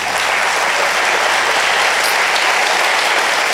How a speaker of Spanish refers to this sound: Estos 10 mandamientos se merecen un aplauso.